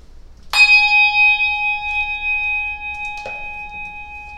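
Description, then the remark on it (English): A church bell is struck twice, a few seconds apart, before a worship service. Each clear, bright strike is followed by a long, shimmering ring that fades slowly. No one speaks. “So after the ringing of a bell and a moment of quiet, we'll begin our worship.”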